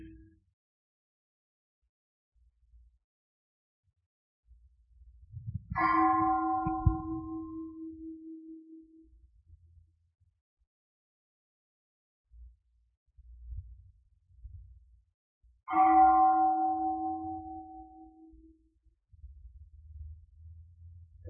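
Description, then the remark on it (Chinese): A meditation bell is struck twice, about ten seconds apart, during a pause in Luang Por's teaching, each ring clear and resonant before slowly fading out. Faint low thumps and rumble sit underneath, with no talking. “龙婆停止讲的时候，我们听那个钟声的时候，有时候我们会觉知自己，有时候我们会跑去想，有时候跑去听钟声，我们的心没有跟自己在一起，有时候会觉知自己，一刹那又会跑去想了。”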